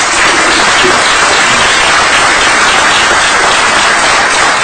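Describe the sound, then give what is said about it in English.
An audience in a county council chamber applauds a county council member steadily, dense overlapping claps forming a loud, continuous wash of sound with no voices. “And let's all have a round of applause for our county council member.”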